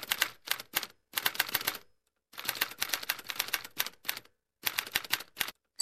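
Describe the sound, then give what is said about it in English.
Keys clack on an enormous manual Remington typewriter in quick, uneven bursts separated by short pauses. The strikes are crisp, with no voices. “And from about the age of 10 or 11 onwards, there was an enormous monster of a typewriter, a Remington, in the home.”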